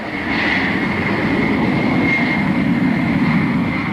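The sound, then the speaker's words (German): A loud, steady roar of a white Boeing 747 with a red side stripe at takeoff thrust on the runway, lifting off on its first flight, a dense rumbling wash with a faint whine on top, sustained without a break and no voices. “Pilot Jack Weddle gibt Schub und das Flugzeug hebt ab zum ersten Mal.”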